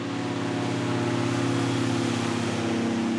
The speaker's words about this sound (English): Next, an airboat comes buzzing down the river, carrying a strike team of Border Patrol agents. And they're heavily armed.